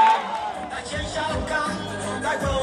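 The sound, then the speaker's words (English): A large crowd of thousands of young people cheers and murmurs in a steady, dense roar at the sporting ground in the regional capital of Kisumu, at night under a cloudy sky with a warm breeze, with scattered shouts and whoops rising above the din throughout. “In the regional capital of Kisumu, at the sporting ground, there's a warm breeze filtering through the crowd.”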